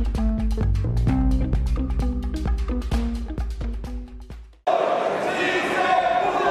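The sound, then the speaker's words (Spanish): Members of President Gustavo Petro's bloc chant a victory chorus in unison over steady rhythmic thumping or clapping after the pension reform was approved in the plenary of the Chamber of Representatives, 86 votes to 32, then the sound cuts to a loud, noisy crowd cheering and shouting. “Ese fue el coro de victoria entonado por los miembros de la bancada del presidente Gustavo Petro, luego de que la reforma pensional fuera aprobada en plenaria de la Cámara de Representantes con 86 votos a favor y 32 en contra, dando luz verde”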